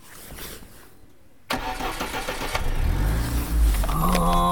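After a brief quiet moment, the engine of a Lada, a Russian off-road car, abruptly starts up, then revs with a rising, throaty roar as the car begins to pull away.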